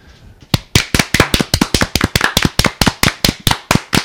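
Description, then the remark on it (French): Steady clapping begins after a brief pause: roughly two dozen sharp, crisp claps in an even, brisk rhythm, loud and distinct, like one or two people applauding a guest for cooking advice on spaghetti carbonara, with no voices over it. “Nous allons t'applaudir pour tous ces conseils.”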